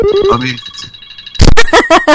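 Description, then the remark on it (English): Eric's phone ringtone at the end of a stream plays a brief run of bright electronic tones over a thin steady high whine, then gives way to several loud, harsh bursts in quick succession. “Eric's ring at the end of the streams always sound like the dog.”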